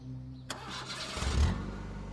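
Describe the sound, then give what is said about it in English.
A car engine cranks briefly after a click of the ignition, then catches and settles into a steady, low rumbling idle, with no talking. “My car breaking down here would have literally been the worst thing ever.”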